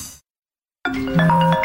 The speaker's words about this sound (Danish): Det her er lyden af en kunde, der ringer forgæves, og som nu finder nummeret på en konkurrent.